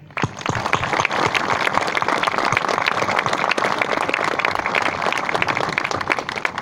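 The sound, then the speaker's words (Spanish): A crowd breaks into sustained applause for teachers' families receiving their own homes, a dense wash of many hands clapping at a steady loudness throughout, with no voices rising above it. “Así que a todos ustedes, muchas felicitaciones, que sean muy felices, y un aplauso para esas familias docentes que hoy recibirán su techo propio.”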